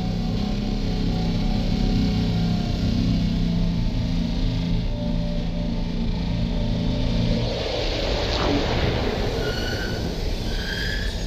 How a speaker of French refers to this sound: Eh bien, il ne nous reste plus qu'à mettre les moteurs à l'arrêt. Tu peux faire ça, bébé? Bien sûr, commandeur. Quand vous l'ordonnerez. Eh bien, allons-y. Arrêt des moteurs.